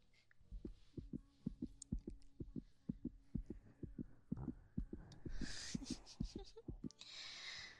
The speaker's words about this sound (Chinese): 哎呦，怎么搞的？心跳得这么快啊？紧张啦？